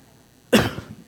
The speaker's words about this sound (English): I'm sorry, I got a chest cold, so hopefully I don't cough too bad.